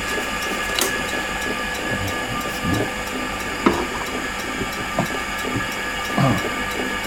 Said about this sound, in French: Donc là, on est devant la machine à coudre. Là, qui est une machine des années 30. Mais qui sont d'une fiabilité absolue.